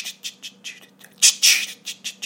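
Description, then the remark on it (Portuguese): A voice imitates the little electronic drum beat of a record, with a steady run of short, hissy clicks and 'ts' sounds, swelling into a louder, longer breathy burst midway before the quick ticking resumes. “Então, tem uma bateriazinha eletrônica, né, que faz...”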